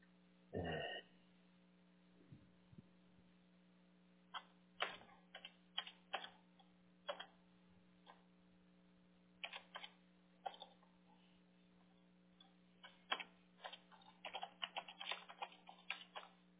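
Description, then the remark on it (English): Irregular bursts of soft clicks and taps of thumbs typing a text message on a phone come in quick clusters over a low steady hum, with one louder thump near the start. “Let me ask my daughter. I will text her if she will ask me.”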